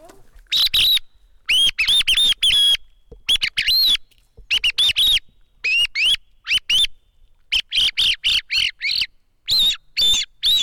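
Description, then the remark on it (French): A recent Spanish-made handheld bird call lure mimics a song thrush to call the bird: bursts of sharp, whistled chirps and trills in short repeated phrases with brief pauses, loud, no talking. “Celui-là, il a été fait par les Espagnols, il est quoi, plutôt récent, et c'est pour appeler la grive musicienne Tordo Botaccio.”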